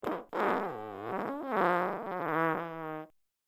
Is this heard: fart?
yes